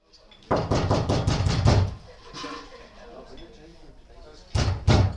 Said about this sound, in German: Erneut wurde jetzt an die kleine Tür geklopft. Sind das immer noch die Hausangestellten?